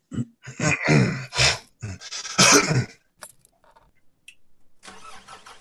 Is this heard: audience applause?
no